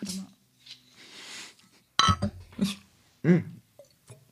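Glasses clink together in a toast, a bright ringing knock midway through, preceded by soft breathy rustling and followed by a few quieter knocks and low murmuring sounds.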